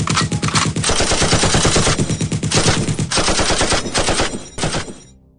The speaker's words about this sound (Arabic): وصلت على شارع عين الرمانة وأز بشوف مسلح واقف ورا العمود ياخد متريس، يعني ما لحقت اطلع فيه واشتغل فينا رصاص.